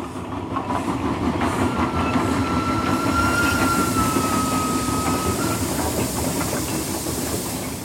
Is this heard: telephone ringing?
no